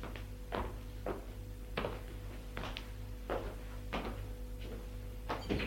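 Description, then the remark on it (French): A woman handles and shuts a door, with a series of soft knocks and thuds spaced under a second apart over a steady low electrical hum. No one speaks. “Elle ferme la porte.”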